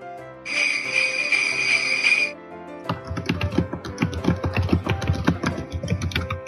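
A bright, sustained ringing tone for about two seconds, then loud, rapid clacking of a computer keyboard, a dense stream of close keystrokes with no one talking.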